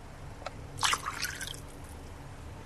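One volume of water is poured into ethanol in a container: a short splash, a bright liquid gurgle lasting about a second after a faint click, then quiet. No one speaks.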